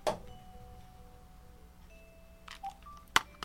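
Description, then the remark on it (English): Electronic telephone ringing tones sound faintly: a few sustained beeps and short chirps, punctuated by sharp clicks near the start and end, with no voices. “Hold on, I think maybe the phone is ringing.”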